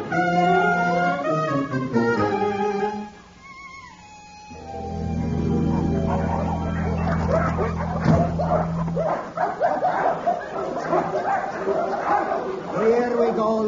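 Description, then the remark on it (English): Dogs bark and yip in an office, twelve dogs in all, starting with a run of high, quick yips, then a long steady whine before a busy, overlapping jumble of barks and yelps fills the rest. “I have a sneaking suspicion that that's another dog you've just brought into the office.”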